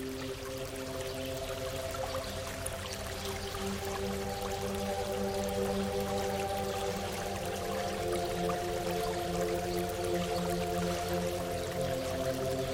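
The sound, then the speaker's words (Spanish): Crystal-clear water flows steadily over stones in a small stream beneath a small stone bridge, a continuous gurgle and babble with no voices, holding an even level throughout. “Desde el puente observas el agua correr, sorteando algunas piedras.”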